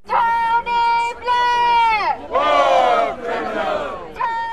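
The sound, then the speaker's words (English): A crowd of protesters outside a courtroom in London shouts loudly in unison in the pre-dawn gloom that Tony Blair is a war criminal, their raised voices rising and falling in several chanted bursts, with a brief pause between phrases. “Protesters gathered in the pre-dawn gloom with their verdict. Tony Blair, they shouted, is a war criminal.”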